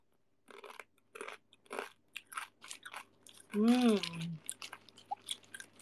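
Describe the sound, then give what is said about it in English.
Loud, crisp crunching of basreng, a crunchy snack, being chewed, a quick irregular series of sharp bites, briefly interrupted by a short voiced hum or murmur midway. “Sounds like you eating basreng.”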